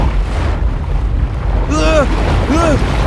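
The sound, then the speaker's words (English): A large ocean wave surges toward the beach with a deep, steady roar of rushing water, and two short rising-and-falling vocal cries ring out over it near the end. “Suddenly, a wave hurtles towards the beach.”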